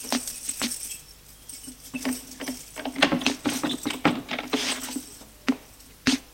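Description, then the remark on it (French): A house's front door being opened at night, heard as a series of sharp wooden clicks and rattles over a low steady hum, irregular, with no voices. “Bruit de la porte d'entrée qui s'ouvre.”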